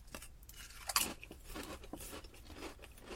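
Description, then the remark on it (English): Crisp crunching of thin-cut Uncle Ray's potato chips being bitten and chewed, a sharp bright crack near the start followed by a run of quieter, irregular crunches with no talking. “What separates Uncle Ray's from a lot of chip brands is the thin cut.”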